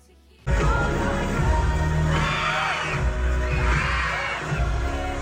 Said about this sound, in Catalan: Aquests crits no és ella ni les coristes, no. És el públic de la sala de cine, no? És el públic que viu la pel·lícula com si fos un concert allà en un, no sé, el Madison de Nova York, tot ple de gent.